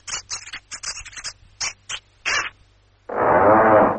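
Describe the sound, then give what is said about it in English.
A typewriter sound sampled and played on a music keyboard: about nine sharp, clacking keystrokes in an uneven rhythm, followed by a loud, sustained rasping whir of paper being pulled out of the machine. “I mean, for example, this one with the paper coming out. You can play it all over the place.”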